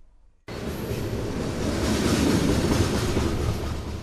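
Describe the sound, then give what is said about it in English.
A loud freight train of uncovered coal cars rumbles steadily past along the Bellingham waterfront after a brief quiet start, a dense, continuous roar of heavy cars rolling, with no one speaking. “Car after car full of black rock, settled into the shape of bread loaves in uncovered containers, rumbles along the Bellingham waterfront.”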